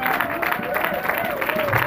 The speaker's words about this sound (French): Quelqu'un peut-il acclamer le Seigneur ce soir? Quelqu'un peut-il donner au Seigneur une bonne main d'acclamation?